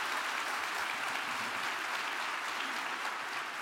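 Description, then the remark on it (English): An audience at a Promax BDA conference applauds three guests steadily, a dense wash of many hands clapping at an even, sustained loudness throughout, with no voices standing out above it. “Can we give them another round of applause for joining Promax BDA?”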